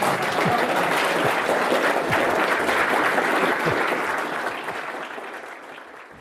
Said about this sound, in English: So let us, you can clap for a small period and then...